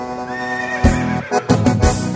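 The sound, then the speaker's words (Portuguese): A yellow horse whinnies loudly, a quavering, drawn-out call broken by a few sharp, breathy bursts toward the end. No one speaks. “Aquilo é um cavalo.”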